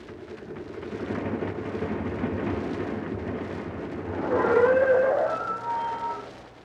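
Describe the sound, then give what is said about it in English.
A car engine rumbles steadily, then swells as the car pulls up in front of the Rolls-Nice sales room on Automobile Row in Wistful Vista and stops with a rising, squealing screech of brakes. The engine idles briefly before fading. “Here they are, just pulling up in front of the luxurious Rolls-Nice sales room.”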